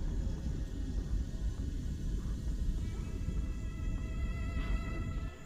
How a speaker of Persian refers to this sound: Oh, توفانی.